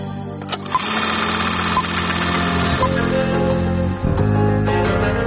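A film projector runs steadily, its motor whirring with a fast mechanical clatter and a low hum. The sound stays fairly loud and even throughout, with a brief dip about four seconds in.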